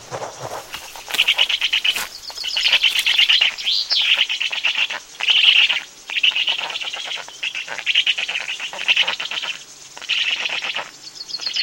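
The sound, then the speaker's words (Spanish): A common chaffinch sings loudly, repeating bright, rapid trilling phrases that end in a flourish, with short pauses between songs over a faint outdoor background. “Canta poderoso un pinzón vulgar.”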